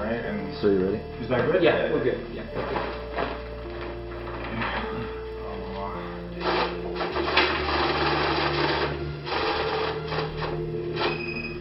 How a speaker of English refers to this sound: That noise you're hearing is a money counter. A money counter is about the size of a small printer. There's a tray at the top where you place the bills. And then those bills are sent to a lower tray as they're counted by the machine.